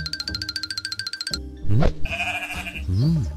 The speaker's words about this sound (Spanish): Eres mía, le dijo a la oveja. Sí, respondió ella. Supongo que lo soy.